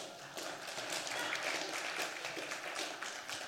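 An audience claps steadily, a dense, continuous patter of many hands holding at an even level for a few seconds before thinning slightly at the end.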